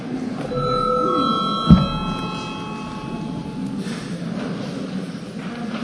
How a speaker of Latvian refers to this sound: Līdz ar to lūdzu zvanu.